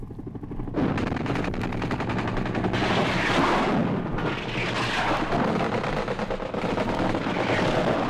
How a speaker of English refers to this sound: Huey gunships, armed helicopters, follow the artillery in, raking the landing zone with machine guns and rockets.